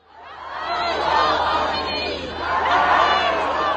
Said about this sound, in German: Jubelnde Menschenmengen im Iran. Sie feiern ihren neuen obersten Anführer, Mojtaba Khamenei. Sein Name wird am späten Abend im iranischen Staatsfernsehen verkündet. Und auf einem Platz in Teheran, wie diese Aufnahmen zeigen sollen.